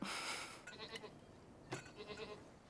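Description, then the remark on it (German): Several sheep and goats bleat in overlapping, wavering calls, one loud cry up front followed by more bleats a moment later, with a soft outdoor hiss in the background. “Weißt du, wieso wir die Ziegen dabei haben? Sie bringen den Schafen bei, was sie essen dürfen und was nicht.”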